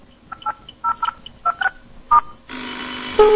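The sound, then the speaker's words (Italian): A telephone number, a Milan number for a prank call, is punched in as a quick, uneven series of about eight touch-tone beeps, clear, followed by a steady electronic line tone that continues to the end. “Dai, ho qui il telefono. E facciamo adesso un numero.”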